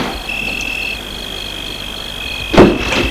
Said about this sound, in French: Va ouvrir la portière arrière.